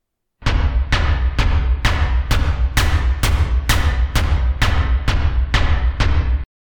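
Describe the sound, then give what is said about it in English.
A loud synthesized drum beat with a deep kick and a sharp clap placed on every other kick, hitting in a steady, evenly spaced rhythm about nine times over a booming low end, with no voices. “Now, with the clapping sound breaking up the monotony of our drum, we will add a hat sound.”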